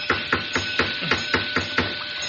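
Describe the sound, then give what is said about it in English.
A flashlight rapped against a door: eight sharp, evenly spaced metallic knocks in a steady rhythm, moderately loud over a faint steady hiss, with no voices. “Perhaps if I rap with my flashlight on the door, it'll attract somebody's attention.”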